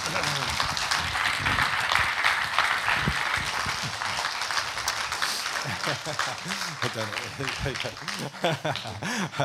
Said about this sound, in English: Excellent. Let's give these guys another round of applause.